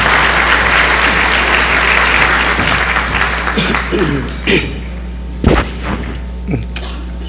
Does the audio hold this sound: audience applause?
yes